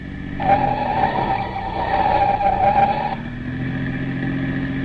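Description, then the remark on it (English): A police car's engine roars at speed with the accelerator pushed to the floor as its tires let out a loud, sustained squeal for about three seconds through a hard left turn, then the engine drones on steadily. No one speaks. “I've had the accelerator pushed clear down to the floor ever since we left.”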